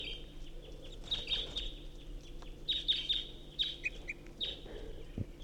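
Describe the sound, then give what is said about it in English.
A second wild bird, singing back to a first bird, gives a series of short, high, bright chirps and whistles in uneven bursts, repeated over several seconds against a low steady hum, with no talking. “Recording, this is the second singing bird.”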